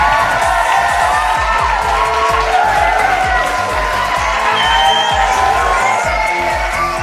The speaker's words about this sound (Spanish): los despedimos con este aplauso calurosísimo de nuestro público.